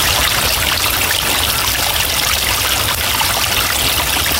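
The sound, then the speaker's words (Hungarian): Steady bubbling spring water flows and gurgles continuously in the middle of a spring area in Tata, a town rich in karst water. A dense fizzing wash with faint crackly pops of small gas bubbles mixed in, with no voices. “ahol a buborékoknak, meg a fakadó forrásoknak a játékát, a kis pukkanó kis gázbuborékokat lehet hallgatni.”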